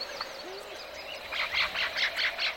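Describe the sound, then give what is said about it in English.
Birds call over a dense natural chorus in a healthy habitat, with a series of bright, rhythmic chirping bursts rising near the end above a steady insect-like drone and faint calls. “Then come the birds.”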